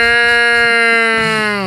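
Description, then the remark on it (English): A person imitates a cow's moo with one loud, sustained, buzzy nasal tone, steady in pitch before sagging slightly lower at the end. No other sounds accompany it. “You could have been like, look, I don't have a cow outfit, but I can make this sound.”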